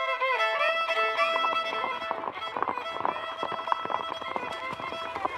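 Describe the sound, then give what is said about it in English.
Rapid hoofbeats of the Lone Ranger's and Tonto's horses, urged forward at top speed, pound steadily under a loud, sustained musical accompaniment, the clattering rhythm running prominent through the whole stretch. “Urging their mounts forward at top speed, the Lone Ranger and Tonto were soon racing alongside the horse that carried a badly frightened Oliver Hornblow.”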